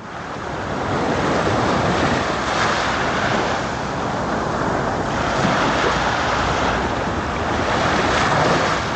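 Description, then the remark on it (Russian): Steady, loud roar of sea waves washing onto the shore at Mariupol, with gentle surges every few seconds and wind buffeting the microphone throughout; no voices. “Море. Море.”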